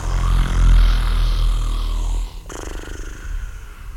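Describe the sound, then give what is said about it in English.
A person imitates a dragon's snore: a long, deep, rumbling snort for about two seconds, then a softer, airy, breathy exhale. No talking. “The dragon began to snore.”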